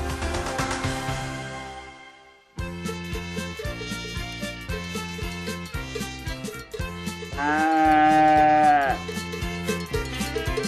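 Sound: cow mooing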